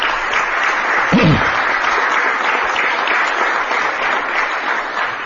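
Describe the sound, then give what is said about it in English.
A crowd applauds city department heads steadily, dense clapping at an even, fairly loud level for several seconds without a break. “Give them a round of applause as well.”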